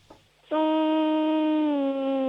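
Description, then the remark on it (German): A child hums a steady, buzzing tone in imitation of a bee during a sound-imitation game, holding one loud, continuous note for about two seconds with a slight dip in pitch near the end. “Okay, und jetzt hätte ich gerne, dass du summst wie ein Bienchen.”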